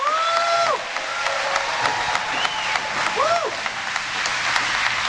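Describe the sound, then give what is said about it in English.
A large crowd applauds steadily for several seconds after Joe says there is no place for political violence in America, a dense wash of clapping with a few voices and whoops rising briefly above it. “I don't think that'd be an applause line at a Trump rally,”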